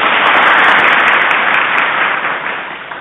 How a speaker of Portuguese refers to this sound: Uma salva de palmas